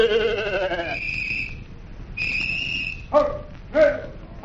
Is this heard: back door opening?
no